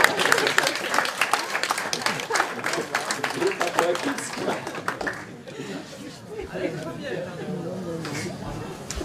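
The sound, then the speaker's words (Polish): A burst of audience applause, dense clapping for about five seconds, then fading into scattered claps, chatter and light laughter from the crowd. “O, no, poeci, brawo.”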